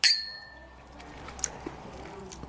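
Glasses clink together once in a toast, bright, the ring fading over half a second, with a few faint ticks afterward.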